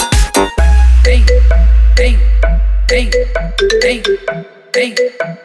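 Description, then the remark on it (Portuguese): A phone ringtone plays loudly for an incoming call, a bright electronic melody of quick repeating notes over a deep, sustained bass tone, with no voices. “Mó cara de pau de agora me ligar.”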